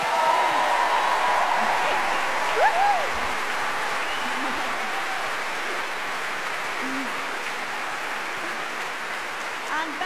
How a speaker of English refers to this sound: As well as conducting tonight's performance, Ben conducts our studio recordings and orchestrates most of the music for the series. And I think he deserves a round of applause for that.